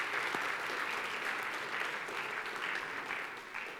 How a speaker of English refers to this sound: Let's give them a really big clap for that. Well done.